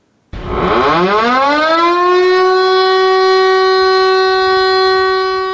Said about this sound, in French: La sirène de l'hôtel de ville de Ouagadougou retentit de nouveau après plus d'une décennie d'interruption.